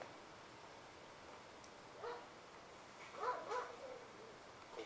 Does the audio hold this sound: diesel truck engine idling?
no